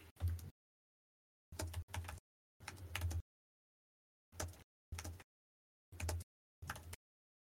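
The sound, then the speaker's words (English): Forceful, angry typing on a computer keyboard comes in short, clattering bursts of keystrokes, about seven quick flurries separated by brief silences, fairly loud with no voices. “I'm angrily typing.”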